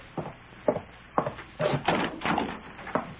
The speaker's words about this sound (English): See who's at the door. No, no. It might... I'll open it myself.